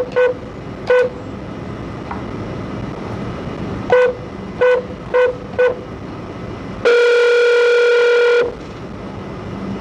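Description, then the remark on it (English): Short electronic beeps come in irregular groups over a steady background hiss, followed by a longer, louder sustained tone lasting about a second and a half, as one more phone call is patched into a conference call. “I think I have almost everybody on conference now, and I'm gonna ask you to let me try to patch in just one more phone call, and then we'll get started.”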